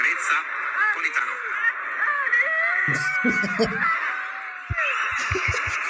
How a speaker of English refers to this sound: I love Spalletti, man. That screeching was Luciano Spalletti.